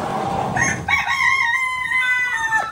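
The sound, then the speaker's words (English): A rooster lets out one long, loud crow, its drawn-out call rising and then holding steady, preceded by a brief burst of chicken clucking and farmyard noise. “People are renting chickens. Would you rent a chicken to collect the eggs?”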